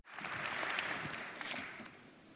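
An audience claps steadily before a speaker begins a talk. It is a dense crackling wash of many hands that holds for about two seconds and then eases off slightly, with no voices over it.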